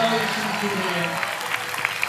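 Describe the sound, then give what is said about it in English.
An audience claps hands for Jesus in a dense, steady wash of applause, with a few sharper claps standing out near the end. Voices murmur underneath throughout. “Somebody clap hands for Jesus.”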